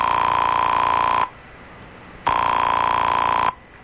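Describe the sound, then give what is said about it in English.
A telephone ringing heard through the line, for a call made from a doctor's house on a credit card: two long, steady, buzzy rings separated by a pause of silence, thin and narrow-sounding as if over a phone receiver, with no one talking. “She was also kind enough to let me make a phone call on my credit card.”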